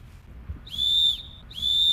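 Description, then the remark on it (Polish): Two sharp, shrill whistle blasts, blown to scare birds away, each lasting about half a second, ring out loud over a low rumbling background, with a brief pause between them. “No ja używam też różnych metod, na przykład gwizdek, to odstrasza te ptaki.”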